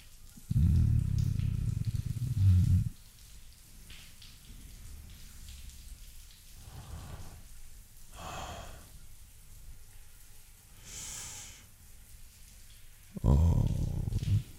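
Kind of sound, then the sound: household object, running shower water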